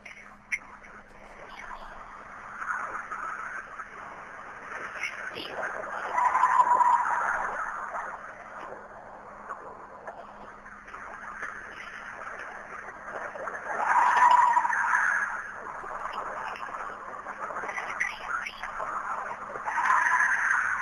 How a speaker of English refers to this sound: And this is supposedly what a Bigfoot's shrieks or howls sounds like. So take a listen to this.